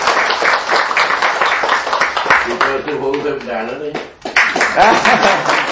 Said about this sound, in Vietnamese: Quý vị cho quý vị một tràng pháo tay đi.